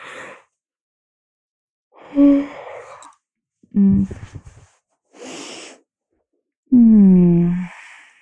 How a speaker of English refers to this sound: I think I'm slowly getting to the point where I don't want to talk anymore. Because I keep yawning.